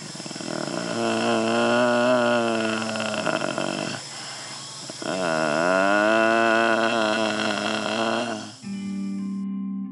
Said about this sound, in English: He's making a deep humming sound.